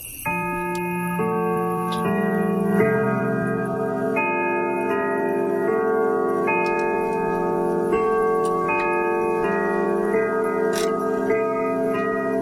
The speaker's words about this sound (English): because I think his grandmother in northeastern Montana had the same clock that my grandma had in her house in northeastern Montana as well. I'm sure you all are very familiar with the Westminster chimes, right?